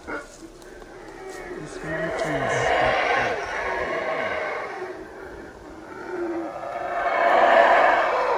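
Howler monkeys roar in the jungle, a loud, continuous chorus of deep, rasping howls that swell and fade in waves, with breathy, growling overtones throughout the whole stretch.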